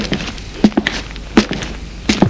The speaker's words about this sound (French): Et la rousse entre dans son immeuble neuf. Monte jusqu'au quatrième étage.